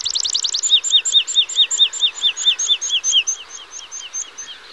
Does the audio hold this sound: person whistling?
no